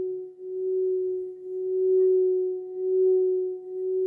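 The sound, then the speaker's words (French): A singing bowl rubbed with the leather-covered side of its stick gives a steady, sustained hum with a faint higher overtone, gently swelling and fading in slow waves throughout, with no voices. “Donc ce bol sonne très très bien côté cuir.”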